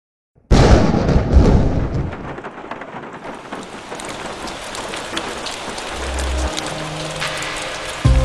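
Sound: rain falling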